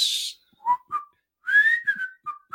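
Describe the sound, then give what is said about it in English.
A person whistles the theme tune of The Andy Griffith Show, bright tonal notes gliding between pitches in a lilting rhythm, with brief pauses between phrases and no talking. “Can you whistle that tune?”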